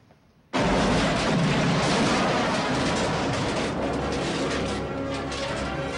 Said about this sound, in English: Joe's car explodes across the car park.